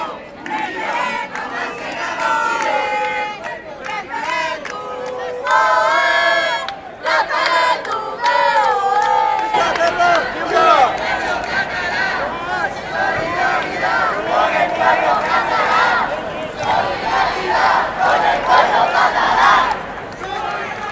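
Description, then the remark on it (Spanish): A large protest crowd in Spain chants and shouts together in loud, rhythmic bursts that build into a sustained roar of many voices, with raised cries rising above the mass of sound. “Por la tarde, en más de 40 localidades de todo el Estado español se realizaron protestas.”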